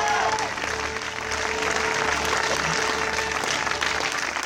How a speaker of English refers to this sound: we've watched the whole movie get all the way to the end, they're rolling the credits. And everybody's loving it. Had a great time. Fantastic movie. Outstanding documentary. Everybody's cheering.